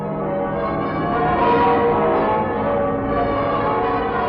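The church bells of Westminster Abbey, London, peal for victory on V-Day, ringing continuously in a dense, overlapping wash of tones, loud and reverberant, with no voices present.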